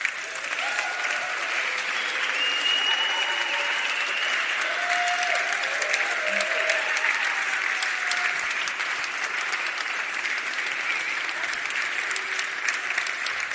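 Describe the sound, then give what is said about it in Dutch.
Sustained audience applause for two men called onto the stage, the founders of the kids' department, a dense, steady wash of many hands clapping at even loudness for over thirteen seconds, with a few faint cheers or voices mixed in and no clear speech. “Heren, nou aan het applaus te horen zijn wij onwijs dankbaar voor alles wat jullie hebben gedaan.”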